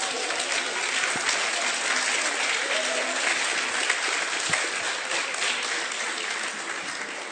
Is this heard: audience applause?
yes